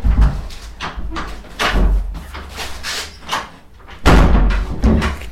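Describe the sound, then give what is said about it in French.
A heavy, stiff door of a psychoanalyst's office is pushed shut with effort, scraping and creaking before a loud thud lands near the end, fairly loud, with some shuffling around it. “Voilà, il n'y a que le psychanalyste qui peut fermer la porte de son cabinet.”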